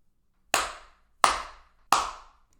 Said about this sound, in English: I slap my ass hard 3 times.